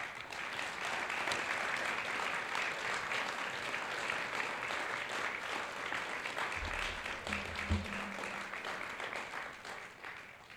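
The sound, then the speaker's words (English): An audience claps steadily and densely for about ten seconds for local merchants receiving an award, a sustained wash of applause with a brief low thump partway through and no voices over it. “So please join me in giving our merchants a round of applause.”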